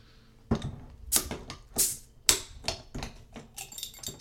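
A beer bottle being opened: a run of sharp clicks and scraping metallic rattles, with a couple of brief bright hissing bursts, and no voices.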